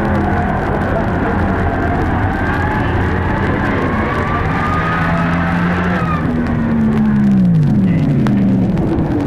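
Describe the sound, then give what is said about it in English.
Drag racing cars launch on the green light of the Christmas tree starting lights with a loud, sustained engine roar that climbs steadily in pitch as they accelerate, then dips and surges again partway through as they shift gears, overwhelming. “The cars take off on the green light.”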